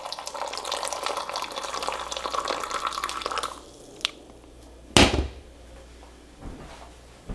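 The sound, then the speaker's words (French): A steady stream of liquid, poured from a height the way tea is poured in Morocco, pours and splashes for about three and a half seconds, then stops. A soft click follows, then a sharp clatter and a few quieter knocks. “Je fais comme quand on verse du thé au Maroc.”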